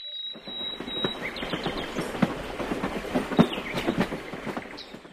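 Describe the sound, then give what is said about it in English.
A train heading to Sunny Beach rolls steadily along the rails, its wheels clicking in a rapid, irregular clatter with metallic squeals, continuous throughout, with no voices. “I go there by train.”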